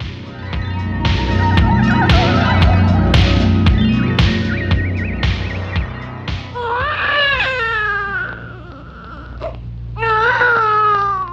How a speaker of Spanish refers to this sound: ¿De dónde viene ese llanto? Ah, pues viene de la historia de hoy.